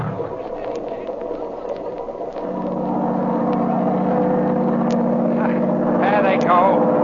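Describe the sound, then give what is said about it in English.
A motorboat engine drones steadily and loudly throughout, its pitch rising as it revs up partway through into a sustained, rumbling hum, with water splashing faintly near the end. “Shut off that engine!”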